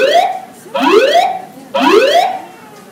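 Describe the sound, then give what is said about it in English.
A building alarm sounds loudly in repeated rising whoops, each sweep climbing in pitch and recurring about once a second, with no voices present. “An alarm has been activated.”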